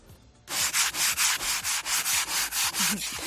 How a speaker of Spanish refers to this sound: Y seguro que a más de uno le ha tocado ahí rascar la luna esta mañana para poder ir al colegio o al trabajo.